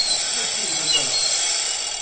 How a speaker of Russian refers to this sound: В машине 79 стеклянных шариков, которые произвольно передвигаются по лабиринту динамической конструкции. Так что и звук, и их траектория непредсказуемы и всегда разные.